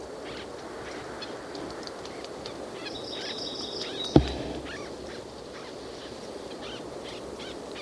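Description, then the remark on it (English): Faint, high squeaky calls of two white-breasted nuthatches in an oak tree, low in amplitude, come in a short, soft series over steady breezy background noise as the wind blows, followed by a single sharp click. “They're both making low squeaky noises.”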